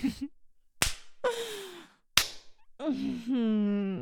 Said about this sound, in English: Now, from this position, I like to slap my opponent's butt.